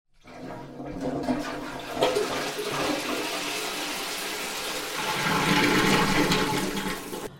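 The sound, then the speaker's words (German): A toilet flushes with a loud, sustained rush of water that swells and churns for several seconds before tapering off at the end, with no voices over it. “Ah, mit einem Satz bin ich vom Klo. Nass von unten, plötzlich hellwach oder so.”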